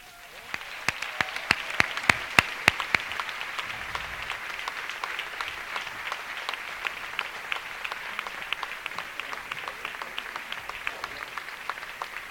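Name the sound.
audience applauding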